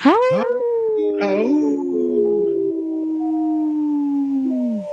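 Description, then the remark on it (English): A person imitates a wolf, letting out a loud, sustained howl that rises sharply, then holds a long wavering tone before sliding down at the end. “Hey, I noticed you took your glasses off to howl,”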